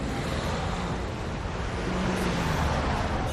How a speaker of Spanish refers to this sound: Ya en carretera me he topado con algo de tráfico, lo que viene siendo normal en una ciudad como Madrid.